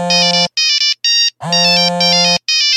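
A loud, bright electronic mobile phone ringtone plays a short synthesized melody in bursts of notes separated by brief pauses, with no voices present.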